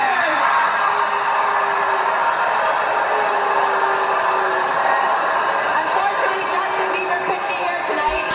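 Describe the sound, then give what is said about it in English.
A large crowd at Canada's Juno award show boos loudly and steadily for several seconds as an award is announced. It is a dense, sustained roar of voices with no pauses, mixed with some scattered shouting and chatter. “Ooh-wee, boy, they booing that boy in Canada.”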